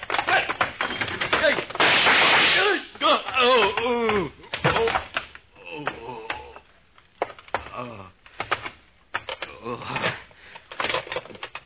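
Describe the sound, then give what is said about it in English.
Several sharp, loud gunshots fired through a window burst out among excited voices, followed by scattered knocking and clattering as people keep talking over the commotion. “The girl has just been killed and I got a couple of slugs.”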